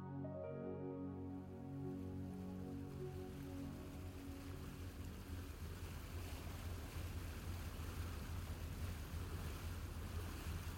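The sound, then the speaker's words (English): Sea waves rush and splash steadily against the hull of a moving ferry crossing to Shackleford Island on a sunny summer day, with a low engine drone at the start and a constant wash of water and wind throughout. “Her hair danced in the air as she listened to the water drumming against the hull of the boat.”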